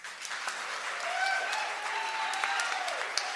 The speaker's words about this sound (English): the founder and producer of the Bitter Jester Music Festival, but I am one of many, many, many dozens of people who make this event possible, and I would really appreciate it if you all joined me in giving a round of applause to our hardworking crew.